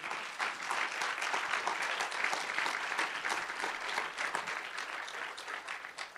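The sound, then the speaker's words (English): An audience claps together in sustained applause as a hand clap of praise to the Lord, a dense, steady patter of many hands lasting several seconds with no talking over it. “So let's just give the Lord a hand clap of praise.”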